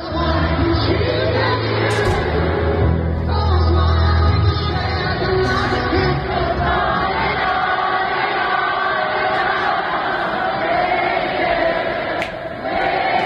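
concert crowd singing along

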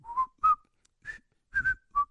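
whistled TV theme tune

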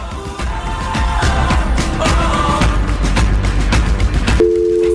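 telephone busy signal

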